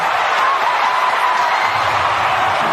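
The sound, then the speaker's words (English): A large stadium crowd at a Drua rugby semi-final roars and cheers continuously after Atelaita Buna's try, a dense, loud wash of voices that holds steady for the whole stretch with no individual words standing out. “Let the crowd tell the story yet again.”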